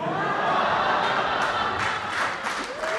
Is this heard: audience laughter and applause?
yes